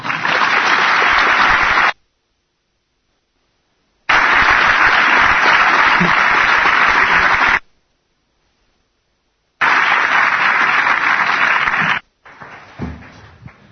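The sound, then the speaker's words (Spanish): Three loud bursts of dense audience applause at the end of a talk, each lasting a few seconds and separated by abrupt silences, the last giving way to quieter scattered noise. “Y sin más, ya podéis, no sé qué toca, aplaudir, reír o hacer pitos y pataletas.”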